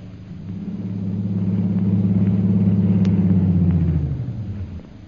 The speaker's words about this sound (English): As her plane is being warmed up for its long flight to Upper Burma, Myra Trent enters the airport.